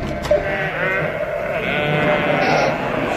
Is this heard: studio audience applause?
no